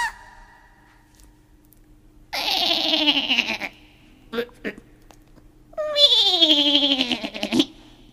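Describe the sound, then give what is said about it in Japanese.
Two long, wavering sheep bleats ring out loud, separated by a brief pause with a couple of soft knocks, each call quavering and sliding down in pitch. “何の動物がやってきたかな。 何かな。 最初は羊さんだ。”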